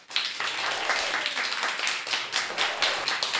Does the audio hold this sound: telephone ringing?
no